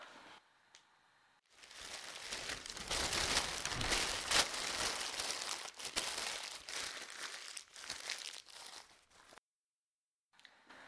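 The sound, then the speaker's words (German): Paper is crumpled up and thrown away, a dense, crackling rustle that runs steadily for about eight seconds before cutting off abruptly, with no voices present. “Und zwar mit dem Papier, das du gerade weggeworfen hast.”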